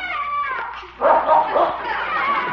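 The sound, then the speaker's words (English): A dog on a trail barks and yips excitedly behind a garage, where it has found a neighbor's cat: a quick run of high, whining yelps followed by a louder burst of barking that keeps going to the end. “That dog is real smart.”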